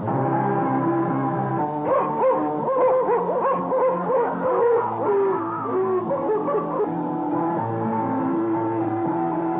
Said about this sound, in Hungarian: Kutyák!